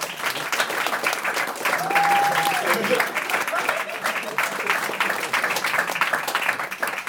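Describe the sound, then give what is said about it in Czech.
Loud, sustained audience applause for three performers fills the whole stretch, a dense steady roar of many hands clapping at once, with a brief whistle rising above it early on. “Veľmi radi by sme poďakovali našim krstným a potlesk pre týchto troch vynikajúcich umelcov. Takže mega potlesk.”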